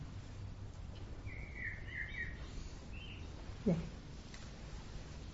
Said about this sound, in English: So I notice sometimes when I am I'm aware of certain the bird singing, for instance, it could be pleasant or neutral